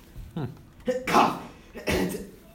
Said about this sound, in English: Cough.